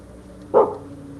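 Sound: dog barking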